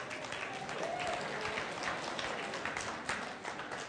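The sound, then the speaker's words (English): A crowd applauds the speaker's wife steadily, a dense wash of many hands clapping at once, sustained and fairly loud throughout with no pauses and no voices standing out. “Why don't you stand up so they know who they're clapping for?”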